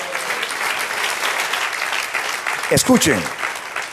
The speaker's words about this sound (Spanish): De un aplauso al Señor.